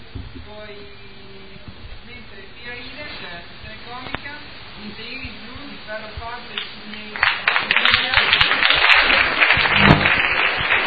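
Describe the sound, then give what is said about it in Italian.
A voice speaks over a low hum, then a dense wash of recorded applause swells in partway through and carries on loudly to the end, sounding canned rather than live. “Sentiamo applausi. Applausi finti. Sentiamo applausi registrati.”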